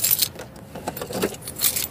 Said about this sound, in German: Und ich muss gestehen, dass ich jetzt hier mal die Tür zumachen muss.